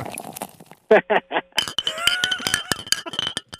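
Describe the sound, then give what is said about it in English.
Drinks of Funky Buddha clink together for a toast: three quick, bright clinks, followed by ringing glassy chimes and small rattling knocks, with faint murmuring voices early on. “You want a couple things clunk together?”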